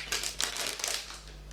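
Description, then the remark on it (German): A stiff plastic Haribo candy bag crinkles and crackles in quick, irregular bursts, moderately quiet, as someone handles it and tries to pull it open. “Es ist irgendwie eine etwas festere Haribo-Tüte vom Geräusch.”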